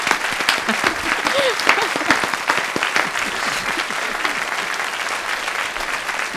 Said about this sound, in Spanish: Un aplauso para ti te voy a dar y para todos los invitados.